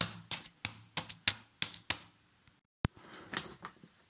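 Quick, light footsteps tap down hard stairs in an even run of about seven sharp clicks, then a pause, a single louder knock, and softer scuffing at the end.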